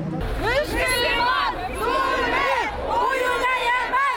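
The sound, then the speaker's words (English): A crowd of protesters against the crackdown on peaceful demonstrations in Bahrain shouts together in loud, rhythmic chant-like bursts, such as "Killer Saudi king, you will be held accountable," voices rising and falling in unison over a steady wash of crowd noise for the whole clip. “Killer Saudi king, you will be held accountable for what you have done, they shouted.”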